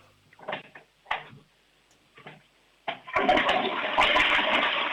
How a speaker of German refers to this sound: Das ist eine laute Klospülung. Also ich würde sagen, da kann man schon ordentlich hinein. Da ist trotzdem alles weggespült.